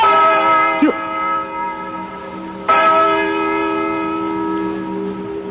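bell tolling the hour

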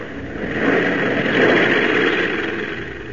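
airplane engine in flight

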